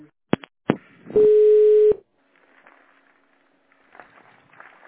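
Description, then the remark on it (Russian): Two sharp clicks, then a single loud, steady electronic telephone keypad tone lasting under a second as the star key is pressed to switch the phone to tone dialing, followed by faint rustling and handling noise. “Переведите ваш телефон в режим тонального набора, набрав звезд.”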